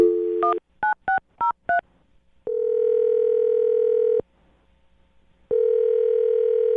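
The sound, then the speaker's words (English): A phone dial tone cuts off into a quick run of touch-tone keypad beeps as someone dials a phone number, followed by two long, steady ringing tones separated by a pause. Loud, with no one talking. “Well, I'm going to dial her phone number right now and see if we can figure out why she isn't calling you back.”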